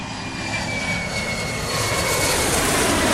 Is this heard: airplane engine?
yes